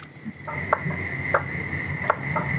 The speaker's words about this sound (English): Frogs in the backyard are having a field day.